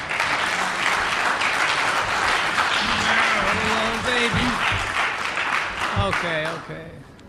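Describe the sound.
An audience breaks into loud, steady applause for a presenter, dense clapping sustained for about seven seconds with a few voices calling out underneath, before it quickly tapers off at the end.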